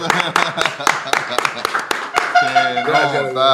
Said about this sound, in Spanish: Hey, un aplauso.